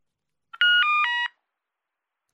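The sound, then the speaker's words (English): A mobile phone message alert rings out: a short, bright electronic jingle of three stepped tones, clear, then silence before the jingle starts again at the end. No one speaks. “What's that? Is it your mobile phone? Oh, yes, it is.”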